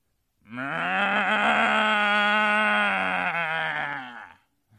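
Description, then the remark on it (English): A person imitates a cow with one long, loud, drawn-out moo lasting about four seconds, low and sorrowful in tone, rising and sagging slightly before trailing off, showing what complaining sounds like per a Hebrew and Aramaic lexicon meaning 'to moo lugubriously'. “Here's what complaining sounds like. It says, cow, to moo lugubriously.”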